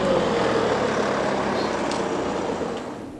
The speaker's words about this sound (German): Leider fährt sie wieder mit dem Auto hin und das hagelt, man ahnt es schon, ordentlich Punkte.